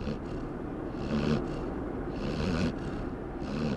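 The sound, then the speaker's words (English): A dog, Roxy, snores softly in slow, rhythmic breaths, about three snorts over a few seconds, asleep with her head resting on her owner's hand in a car heading home, against the steady low hum of the moving car. “Soon, she drops off to sleep and begins to snore.”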